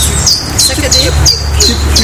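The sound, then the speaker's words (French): A bird repeats a simple, high two-note call about four times in quick succession, clear, over a low, steady outdoor rumble. “Alors, vous entendez un nouvel oiseau. Très facile à décrire.”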